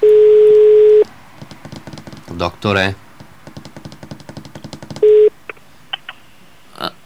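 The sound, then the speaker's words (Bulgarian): A telephone ringback tone for an unanswered call sounds twice, a loud steady one-second buzz followed by another after a pause of about four seconds, with a voice talking and some clatter in the gap. “Тук има обяснение, защо не дига телефон.”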